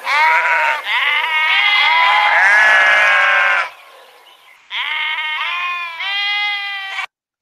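Loud sheep bleating in long wavering cries, a sustained call of several seconds followed by a short pause and another drawn-out bleat, with no talking.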